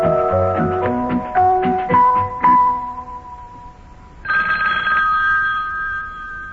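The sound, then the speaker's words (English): A short run of musical notes fades, then a telephone bell in a house's living room rings out loudly in one long, sustained, trilling burst. No one speaks. “Well, lad, telephone's ringing again.”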